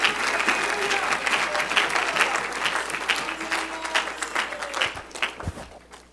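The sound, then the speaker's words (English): An audience claps steadily in praise to the Lord before being seated, dense, sustained applause that gradually thins and fades toward the end, with a few scattered voices mixed in. “Give the Lord one more hand clap of praise before you're seated.”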